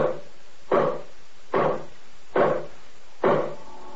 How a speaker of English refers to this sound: Listen to those hammers. Those carpenter boys sure know what to do with hammers. Yes, sir.